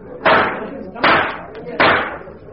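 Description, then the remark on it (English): A gavel strikes three times at a conference at a steady, unhurried pace, each knock sharp and loud with a short ringing tail, plus a faint extra tap between the second and third. “They've even got a gavel.”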